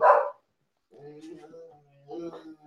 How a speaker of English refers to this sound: Hang on a second. Ginger's having a nervous breakdown. Ginger, you shut up. Oh, now Marlon's had it. We're having the dog barking contest.